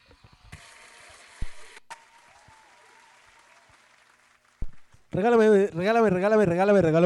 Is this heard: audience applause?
yes